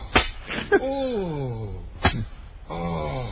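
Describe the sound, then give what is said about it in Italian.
Sharp whip lashes crack three times, each followed by a man's low, drawn-out moan that slides downward in pitch. The cracks are loud, and the groans fill the gaps between them. “Ma chi è? … che si fa frustare?”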